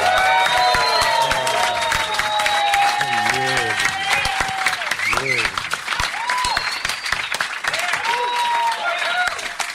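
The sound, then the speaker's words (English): A loud, steady wash of audience applause at a live show at New York Podfest fills the whole stretch, with whoops and high cheering voices rising and falling above the dense clapping; only two of the applauders are standing. “See, only two applauders are standing.”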